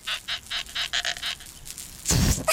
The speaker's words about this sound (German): Diesmal quietscht Kali mit einem neuen Luftballon. Das ist doch mal ein lustiges Foto geworden.